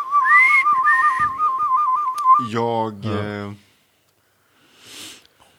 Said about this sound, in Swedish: Jag kan vissla som du visslar, men det kallar inte jag vissla. Det där är vissla.